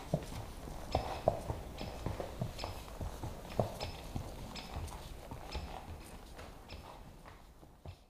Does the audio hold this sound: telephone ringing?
no